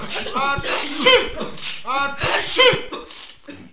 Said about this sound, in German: Plötzlich fingen die Weihnachtsmänner ganz doll an zu niesen und zu husten.